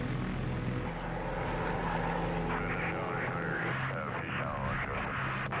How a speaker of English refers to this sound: And this whole flyby is an emotional reminder of the worst that can happen to any flight.